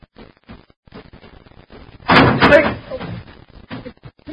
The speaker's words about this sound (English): Close the door.